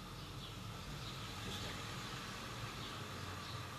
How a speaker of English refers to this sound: The truck's coming. Wait. Yeah, the truck's coming.